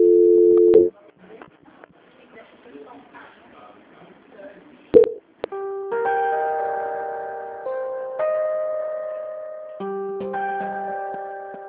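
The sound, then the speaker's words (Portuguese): A telephone line plays a sequence of steady electronic transfer tones as a call about a contract is transferred to quality control, each held for a second or two and shifting pitch, after a brief stretch of faint line noise and clicks. “que a senhora aguarde em linha, que a senhora não desligue o telefone, que eu vou transferir para o controle de qualidade, que dará continuidade à sua contratação, ok?”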